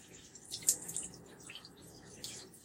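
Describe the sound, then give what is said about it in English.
Steady hiss of running shower water with a broad, even wash of noise, punctuated by a few brighter splashes and drips; no voices. “So I guess I decided to record while I'm in the shower.”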